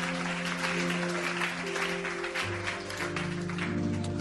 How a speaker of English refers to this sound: Clap your hands and bless the name of the Lord.